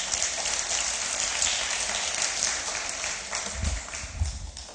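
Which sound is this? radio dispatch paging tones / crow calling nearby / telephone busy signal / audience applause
audience applause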